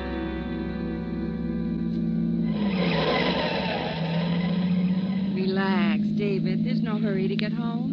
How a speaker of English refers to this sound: In this mess of traffic. Must be a wreck or something up ahead.